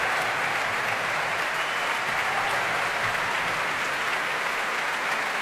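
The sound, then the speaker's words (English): Sustained applause with stamping from a packed audience at the Royal Albert Hall after an orchestral performance, as the wind section, horns and trumpets stand to receive it; a dense, steady wash of clapping hands at an even loudness throughout, with no voices or music audible above it. “The wind section standing now to receive the applause.”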